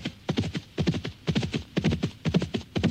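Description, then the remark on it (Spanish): Horse hooves clip-clop in a quick, steady rhythm, each sharp knock landing clear as a rider hurries on horseback to the city of Foligno without pause. No voices are heard. “Francisco montó en su caballo y se fue volando a la ciudad de Foligno”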